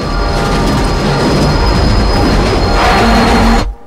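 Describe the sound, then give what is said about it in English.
A passenger train carriage rattles and shakes violently, a loud, continuous rumble with clattering and a faint squeal of wheels, heard from inside among seated passengers before cutting off abruptly. “As the train begins to shake more violently, David looks up ahead.”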